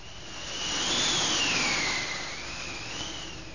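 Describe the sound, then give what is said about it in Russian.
A steady roar of strong wind with a thin whistling tone that rises and falls over it, swelling and easing like gusts over a rough sea. No voices. “Ветры подули, море взволновалось и бочку выкинуло на сухой берег, на желтый песок.”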